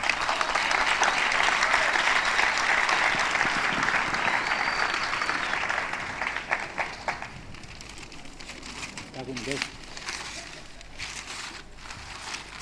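An audience claps together in dense, steady applause for about six seconds, then it thins into scattered individual claps and fades to quiet room noise.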